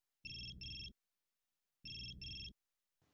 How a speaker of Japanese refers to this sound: 電話鳴っとうよ。